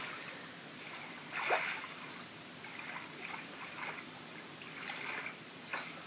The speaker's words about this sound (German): Wie das Wasser unterschiedlich an den Strand gespült wird. Mal etwas mehr, mal etwas weniger. Das Wasser zieht sich zurück. Der Sand wird etwas trockener. Und dann kommt es wieder, spült neuen Sand, neue Muscheln an den Strand